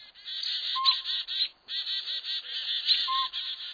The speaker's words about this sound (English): Aggravated and scolding like mad, a dozen or more small birds dart back and forth above and below the owl. Chickadees, kinglets, nuthatches, and a downy woodpecker all join the fracas.